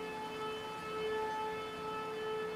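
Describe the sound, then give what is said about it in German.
A steady, droning siren wails without pause, its tone held level and fairly loud throughout, with no voices over it, sounding at the end of the workday as the signal to return to the dormitories. “Als die Sirene ertönte und als die Zeit kam, wieder zurück in unsere Schlafsäle zu gehen, bin ich in die falsche Richtung gegangen.”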